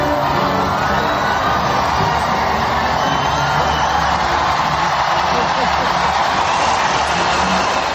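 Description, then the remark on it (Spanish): Thousands of people outside Buckingham Palace, UK, applaud and cheer as the royal family comes out on the balcony during Queen Elizabeth II's Platinum Jubilee celebrations, a dense, continuous roar of clapping and shouting voices that stays loud and even throughout. “Bueno, pues así fue el momento en el que ayer la familia real salía al balcón de Buckingham Palace entre aplausos, ya lo has escuchado, muchísimos aplausos, y también vítores de las miles de personas que se agolpaban en esa zona”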